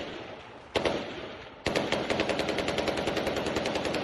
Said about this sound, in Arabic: سريعا انقلب المشهد في العاصمة اللبنانية، رصاص، قنص، ضحايا ومشاهد ذكرت بالحرب اللبنانية.